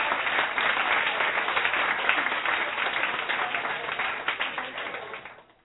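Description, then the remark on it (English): A crowd applauds steadily to welcome Antonio Paris, director of Aerial Phenomena, live on LPI Radio, a dense wash of many hands clapping at an even loudness for about five seconds before quickly fading out at the end. “Hey, big round of applause.”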